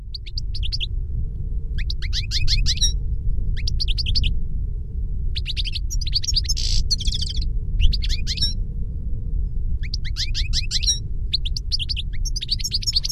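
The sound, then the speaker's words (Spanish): A bird sings in quick bursts of bright, high chirping phrases separated by short pauses, repeated throughout over a steady low rumble of background noise. “Bé, jo crec que té un cant molt bonic, no?”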